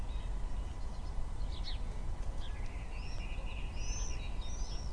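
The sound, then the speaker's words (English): Great tits and sparrows call intermittently from trees at the end of Marlborough Road, a scatter of short chirps and thin whistled phrases over steady outdoor background noise, with no one speaking. “We've got the buttercups in front of us and the dandelion clocks, and the birds are whizzing about overhead. Awesome. Great tits and some sparrows in the trees over there.”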